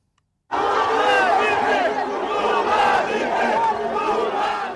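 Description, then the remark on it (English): A large crowd of supporters of former Brazilian President Luiz Inácio Lula da Silva cheering and shouting all at once outside a prison in Brazil as he is walked out of jail, a loud, sustained roar of many voices with rising whoops, starting abruptly after a brief silence and holding steady throughout. “The sound of supporters of former Brazilian President Luiz Inácio Lula da Silva cheering as he was walked out of jail.”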